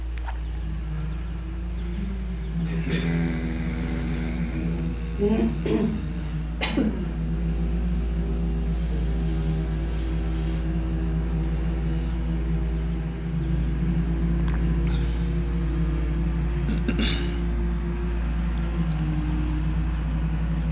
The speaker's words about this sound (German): Machen etwas, einen brummenden Ton beim Ausatmen.